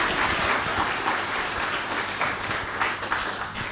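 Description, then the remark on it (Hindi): A crowd applauds steadily for the Colaba Centre, with dense overlapping hand claps forming a continuous wash of sound that holds at a fairly even level throughout, with no voices standing out. “तो सब ताली बजाओ हमारे कोलाबा सेंटर के लिए।”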